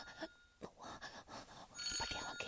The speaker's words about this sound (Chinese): 我电话响了。我，等一下，真是我电话，我电话就这个声音呢，快！